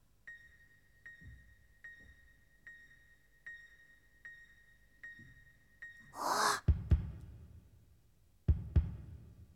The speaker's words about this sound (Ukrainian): Дихає! Дихає! Ще парочку крапель, і він зовсім підніметься!